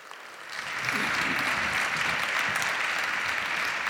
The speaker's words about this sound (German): Bitte einen herzlichen Applaus für Markus Beckedahl und Johnny Häusler. Bitteschön.